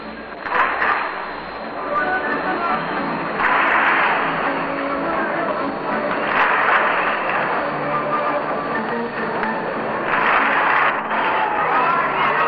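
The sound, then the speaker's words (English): A large ballpark crowd at a Brooklyn versus Chicago baseball game claps along to organ music supplied by Gladys Goodings, the clapping swelling in waves every few seconds over a steady, muffled roar of many voices. “Well, now the Gladys Goodings has supplied us with a little hand-clapping music.”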